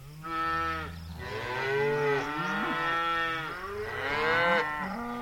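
Several cows moo loudly, their long drawn-out lows overlapping and rising and falling in pitch for about five seconds, with no voices.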